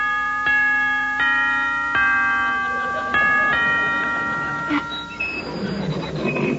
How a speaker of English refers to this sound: Now, ring the bell.